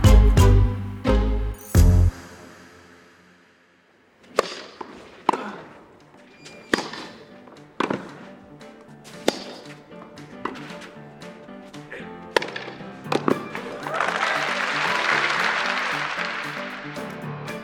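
A tennis rally on a clay court, with sharp, evenly spaced ball strikes trading back and forth, ending in a rising wave of crowd applause and cheering.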